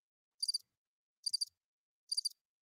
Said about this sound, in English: Crickets. Yep. In between one of those cricket sounds was Shaq Barrett's name.